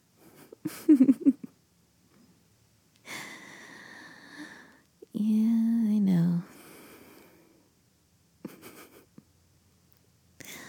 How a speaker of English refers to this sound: Sorry, I just end up snoring when I'm really, really tired.